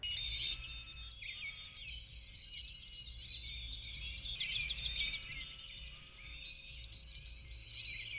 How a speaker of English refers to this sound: I note that among the declining bird songs, there is one that perseveres and strikes a careful note in my ear, a lovely note, and that is the song of the white-throated sparrow.